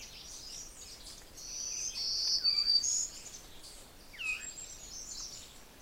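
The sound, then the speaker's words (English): A steady high chorus of crickets with a few soft, downward-spiraling veery notes ringing out, in a yard that is like a hole in the woods with berry bushes around, quiet outdoors with no voices. “Most of the peculiar notes are the veeries.”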